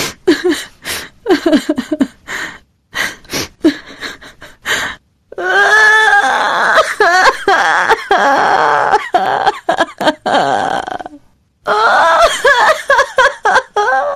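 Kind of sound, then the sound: human body sound, person crying and whimpering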